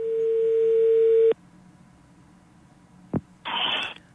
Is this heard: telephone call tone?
yes